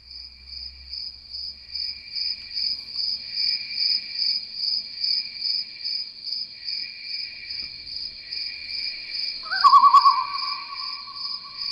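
A steady, pulsing chorus of night insects in a garden trills continuously at a high pitch, with a brief brighter tone cutting in near the end. No voices, just the constant outdoor buzz.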